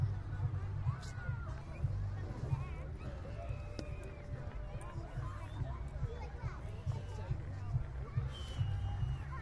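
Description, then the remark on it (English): A large crowd at a baseball field in southern Nevada, gathered for a fireworks show on a warm night in the upper 80s with a breeze, murmurs steadily, many overlapping voices blending into a dense, even hubbub with no single voice standing out. “There's a very large crowd of people here at the park.”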